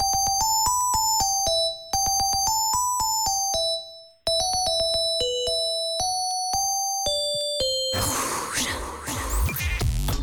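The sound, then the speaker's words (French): A bright, synthetic 2000s polyphonic ringtone plays a catchy pop hit melody in quick, evenly spaced beeping notes for about eight seconds, then gives way to a burst of hissy noise. “Attention, on va réécouter cette sonnerie polyphonique des années 2000.”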